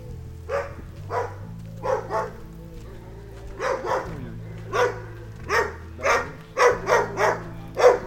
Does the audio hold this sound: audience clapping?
no